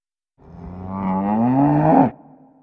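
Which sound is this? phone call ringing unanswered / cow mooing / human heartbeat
cow mooing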